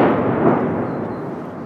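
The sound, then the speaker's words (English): A deep, rolling boom of mortar explosions in the distance, its rumble lingering steadily for a moment with no sharp crack and no voices. “Explosions in the distance, mortars, then drones.”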